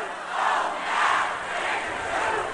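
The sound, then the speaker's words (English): A large crowd screams and roars at a protest rally against the Iraq war in Washington, D.C., a sustained wall of voices that swells in loud waves for a few seconds without any single clear speaker. “Let me hear you scream louder.”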